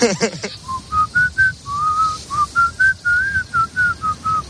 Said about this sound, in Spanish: Bueno, ya ves que sí, en esto de los silbidos hay de todo. Gente que por más que lo intenta no emite ni un solo sonido. Y gente que oye, bueno, pues más o menos sí que silba algo.